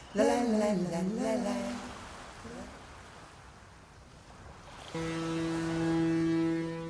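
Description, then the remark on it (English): A deep, steady ship horn sounds for about two seconds over the wash of ocean waves, following a stretch of surf and an earlier wavering, sliding tone. “The white whale sees a big ship.”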